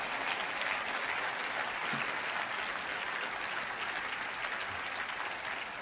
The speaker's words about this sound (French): qui connaissent ce Dieu de possibilités et qu'il a fait des choses remarquables dans votre vie, surprenantes, voulez-vous encourager les autres pendant un instant et simplement applaudir avec moi en terminant dans ce Dieu de possibilité de pardon.